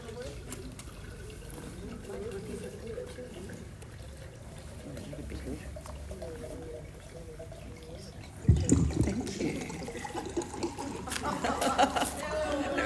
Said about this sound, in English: Sorry? The sound of running water. Oh, yes, the toilet. So I've just put a liter of coconut water into that jar